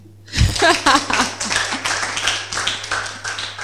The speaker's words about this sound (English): Are you guys actually clapping? That's how people do when they're going to give testimony.